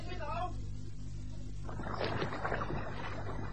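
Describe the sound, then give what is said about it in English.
A rowing boat with two men aboard is lowered from a ship into a heaving sea, with a surge of splashing, rushing water breaking in midway over a steady low rumble of swell. A brief voice sounds at the start. “Give orders to clear the falls to lower the boat.”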